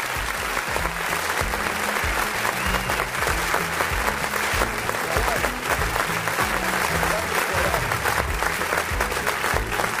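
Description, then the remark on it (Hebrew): Sustained audience applause for a performer fills the whole stretch, a dense, steady wash of many hands clapping with no pauses, loud and even throughout, with no voices standing out. “הרבה כפיים ליוסף על התותן!”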